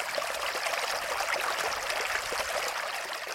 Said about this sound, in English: There's definitely a musicality to the sound of water.